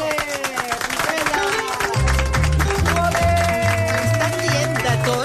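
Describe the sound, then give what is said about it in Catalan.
An audience breaks into steady, dense applause for Alexia Putellas, filling the whole stretch, with music swelling in underneath, deep bass notes entering partway through. “Parlant d'això, podem fer un aplaudiment a l'Alexia Putella?”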